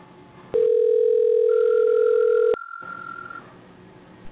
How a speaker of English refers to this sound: Hey, we have a ringtone.